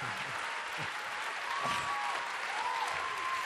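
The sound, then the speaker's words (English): Steady audience applause for award winners being announced, a dense wash of many hands clapping that holds at an even level throughout, with a few faint whistle-like tones rising over it partway through. No one speaks. “So hold your applause.”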